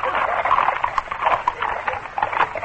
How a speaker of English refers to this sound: A moment later, the carriages were abreast of the post house, and the four men assigned to stop them spurred their horses into the middle of the road.